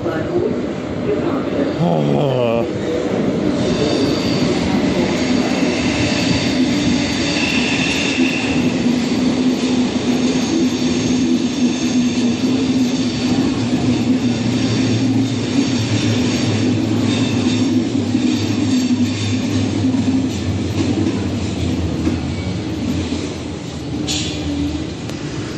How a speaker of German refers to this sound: Das ist der Zug, der da jetzt gerade gegenüber eingefahren ist.